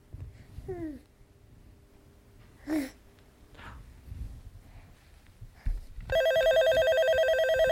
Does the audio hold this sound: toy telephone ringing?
yes